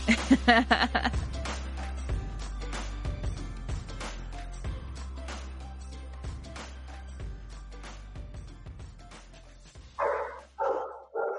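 Dogs bark in short, sharp bursts, a few at the start and a louder cluster of three or four barks at the end, over a steady low hum.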